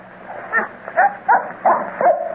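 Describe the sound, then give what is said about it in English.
A dog named Lucky lets out five short, high-pitched barks in a quick, slightly uneven series, each a sharp yelping burst with a rising tone, with no talking over them. “Keep quiet, Lucky. Don't make him mad.”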